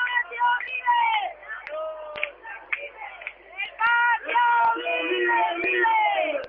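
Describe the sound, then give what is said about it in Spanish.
A street protest march turning toward San Bernardo shouts and chants continuously, many overlapping voices yelling with sharp bursts and whoops, loud throughout, with occasional clacks and bangs cutting through. “Estamos escuchando la manifestación, los gritos que están dando,”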